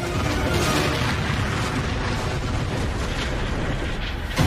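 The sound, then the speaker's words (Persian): A deep, sustained explosive roar fills the whole clip, loud and rumbling with dense low-end energy, as a torpedo explodes against the ship Nereus, with no voices. “اونا نریوس رو زدن.”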